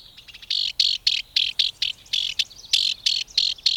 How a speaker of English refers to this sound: That cocked tail, twitching sharply as the house wren scolds, puts an exclamation point on the wren's perky voice and attitude.